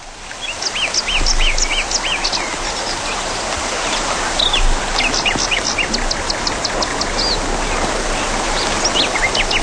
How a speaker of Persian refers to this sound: دوستان اومدیم در بله در یک فضای بیرون استودیو اینجا. ما یک رودخانه خیلی قشنگ زیبا داریم. پرندگان هم میخونن. بحبه. یه لحظه به صدای طبیعت گوش کنیم.